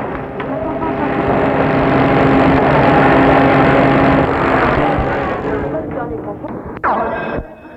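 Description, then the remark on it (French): A car engine rumbles loudly and steadily, swelling and then gradually fading as the vehicle pulls away, ending with a brief sharp clunk. “Et il démarre.”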